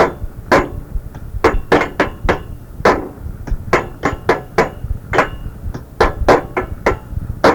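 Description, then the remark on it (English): A pencil bangs against a table in a quick, steady beat, each sharp tap clicking out crisply, around twenty hits over several seconds with no voices. “It is me banging a pencil against the table.”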